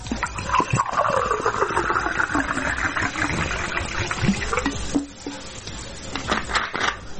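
Bottled water pours steadily into a glass in Zrenjanin, Serbia, for about four seconds, its gurgling tone shifting as the glass fills, followed by a few quieter splashes and clinks.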